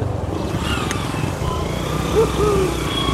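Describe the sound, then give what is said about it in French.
A motorcycle engine labors, its low, rough rumble droning steadily throughout without pulling away, as a family struggles to move it forward on muddy ground while two women push. “Là, on est tous descendus et pour pouvoir passer, là, il y a une famille là, qui n'arrive pas à faire avancer sa moto.”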